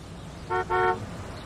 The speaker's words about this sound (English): A man pulls up in the truck.